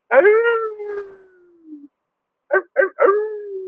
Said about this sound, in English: I love the coyotes and how they howl.